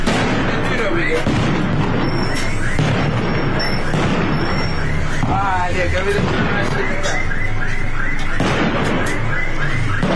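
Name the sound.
continuous gunfire and explosions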